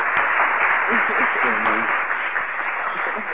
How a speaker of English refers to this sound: Round of applause for you right now.